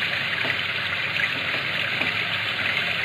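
Cognac pours into glasses in a steady, continuous liquid stream, a bright splashing gush that holds an even level for about three seconds with no voices.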